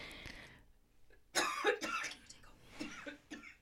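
A person coughs several times in a short, harsh burst, starting abruptly and then trailing into smaller throat-clearing coughs, close and fairly loud with no talking.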